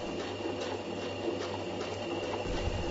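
A sewing machine runs steadily on its own, a continuous mechanical whir with a low motor hum and faint rhythmic ticking, fairly quiet and unbroken throughout.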